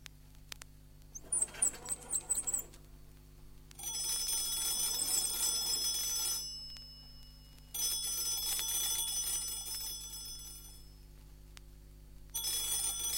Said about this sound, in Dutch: Al enkele jaren na de eerste experimenten van Alexander Graham Bell is er in 1876 een heus telefoontoestel. De abonnee hoeft alleen maar aan een slinger te draaien.